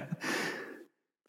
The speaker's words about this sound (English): Of course, now suddenly I have to cough when I'm doing an interview.